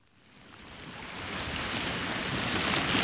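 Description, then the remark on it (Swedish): A steady rush of flowing water from a mountain stream in the Giras area south of Nikkaluokta, fairly loud, a broad hissing babble that swells slightly over the few seconds, with no voices. “Nu sitter jag här invid jocken.”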